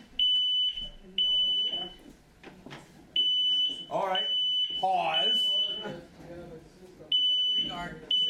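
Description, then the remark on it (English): A smoke alarm beeps loudly in repeated short bursts, a steady high-pitched tone starting and stopping over and over while people talk and react. “I know he's working on the alarm.”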